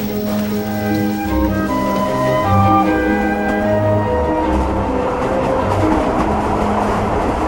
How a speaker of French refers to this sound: Train Genève-Lausanne, 18h35.